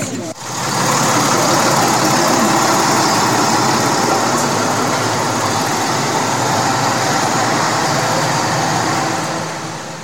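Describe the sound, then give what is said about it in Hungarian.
A steady, loud engine rumble of a bus idling as everyone says goodbye and boards it for a camp, holding for about ten seconds with a broad hiss on top and indistinct voices mixed in. “Mindenki érzékeny búcsút vesz, és felszállunk a buszra, jó?”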